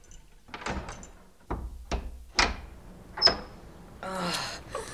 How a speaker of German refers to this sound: Na sowas. Wartet, ich schließe auf.